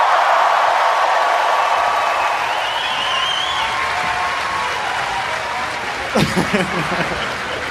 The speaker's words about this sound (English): Ladies and gentlemen, would you please, for Glastonbury 2013, put your hands together, go absolutely wild with applause for Robin Ince, Brian Cox and Infinite Monkey Kane!